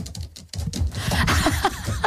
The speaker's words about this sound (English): Typing away on the keyboard there, getting all organised, all excited.